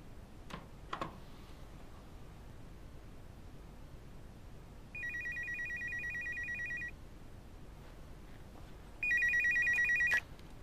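A phone rings twice in electronic trills early in the morning, each burst about two seconds long with a pause between, over a quiet background hiss, with a couple of faint clicks before the first ring.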